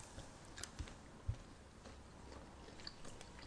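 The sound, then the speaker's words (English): Someone bites into a soft, soggy Maltista, a malted milk chocolate bigger than a Maltesa, making a few quiet mouth clicks and a muffled bite followed by faint chewing, with no one talking. “It's not crunchy. It's kind of soggy. Tastes like a Maltesa, but soggy.”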